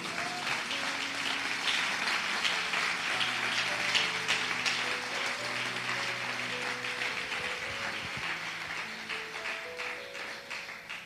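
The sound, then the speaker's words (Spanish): A church audience claps steadily for about eleven seconds, applauding the Lord, a dense, sustained wash of applause with soft organ or keyboard chords sounding underneath. “Quisiera usted aplaudir al Señor.”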